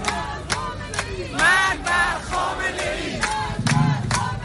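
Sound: protest crowd chanting slogans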